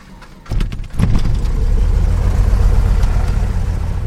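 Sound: small airplane engine starting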